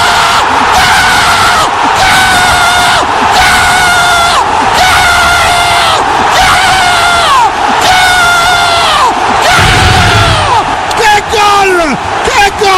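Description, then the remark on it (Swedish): Loud, sustained crowd roar of ecstatic screaming and cheering from fans celebrating a football goal, with wild whoops and yelling rising in waves throughout, intense. “Och så här ungefär kommer vi låta när han gör mål sen i kuppen.”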